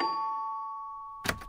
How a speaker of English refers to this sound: They rang the doorbell.